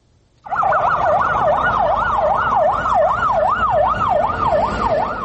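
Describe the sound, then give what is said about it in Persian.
A fire engine siren at a fire in a market wails loudly and steadily, its pitch sweeping up and down in a fast repeating cycle over a rumble of traffic, starting abruptly after a brief quiet moment. No one speaks. “رواهای ماشین‌های سوختار خاموشبینی زود دیده می‌شود.”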